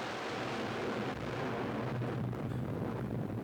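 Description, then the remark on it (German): A gas explosion at an oil well, where the drill struck oil and nearby fire that had not been put out ignited the gases, heard as a deep, continuous roaring rumble that stays steady and loud throughout, with no speech. “Der Bohrer ist auf Öl gestoßen. Und ihr habt versäumt, alles Feuer in der Nähe zu löschen. Nun haben sich die Gase entzündet.”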